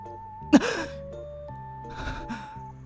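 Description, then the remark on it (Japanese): A voice imitates a sudden, sharp startled gasp, as of a person who fell face-first into a puddle on a rainy day and is nearly choking, followed a moment later by a couple of softer breathy huffs, with a faint steady hum underneath. “雨の日にこけて水たまりできてるじゃん、 はいはい、 でこけて水たまりにこう顔をバシャンってやっちゃって、 はい、 うわーってこう窒息しそうになってる時の音。”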